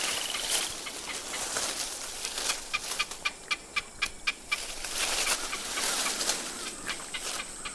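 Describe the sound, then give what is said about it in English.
Crows caw in harsh, raspy calls, with a quick run of evenly spaced caws in the middle and more scattered calls around it, no one speaking. “Well, I seem to only gain the attention of you crows.”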